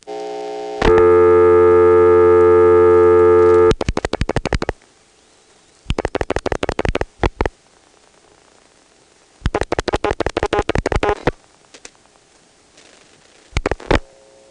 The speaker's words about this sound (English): Let's rotary dial 670-1.